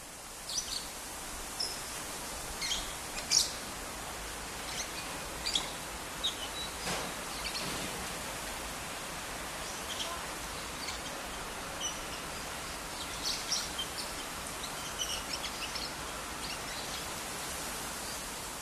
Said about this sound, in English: The irony is that at this temple, you don't hear music. You don't see monks, you just hear these parrots, and that's all there is to it today.